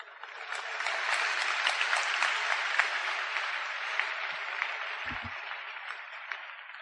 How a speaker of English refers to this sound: Why are you clapping? I have not finished preaching. When I finish preaching, then you clap. And you are blessed. Okay, then clap.